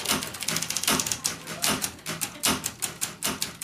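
machine, typing on a typewriter

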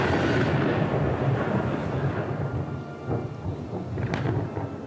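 nature, thunder and rain

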